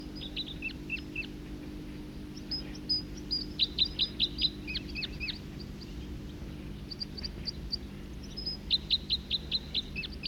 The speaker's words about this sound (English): Other birds coming in now, song flight of a second bird.